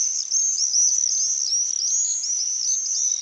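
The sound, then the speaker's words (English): Shrill, high-pitched screeching calls from a flock of common swifts flying over a house in summer, rising and falling in rapid overlapping bursts, continuous and fairly loud, with no voices present. “They're really the sound of the summer, and you hear them screeching over your house, even if you live in a city like I did.”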